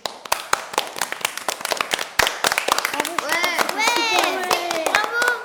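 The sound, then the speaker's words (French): Pupils in a school class applauding at the end of a classmate's presentation: a burst of sharp, rapid handclaps that grows fuller, then children's excited voices and cheers rise over the continuing clapping. “À la fin de son exposé, tous les élèves applaudissent.”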